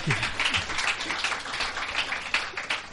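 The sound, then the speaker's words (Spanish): A crowd breaks into steady applause, dense overlapping claps filling the space at moderate loudness for a few seconds with no voices on top. “Bonito, un aplauso.”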